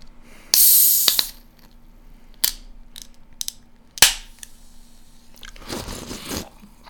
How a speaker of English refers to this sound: I'm going to open up this can of cider that has been sitting in my pocket throughout the entire day. It's been shaken beyond comprehension. This is going to be an explosion. This is going to be bad. Let's see.